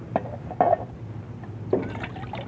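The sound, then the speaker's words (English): Water is poured from a water bag into a pan to wet the mouths of horses and burros in the desert, splashing and gurgling in three short bursts over a low, steady background rumble, with no one speaking. “It me take water bag and help Ralph. Yeah, hold this pan, will you, Grey Wolf?”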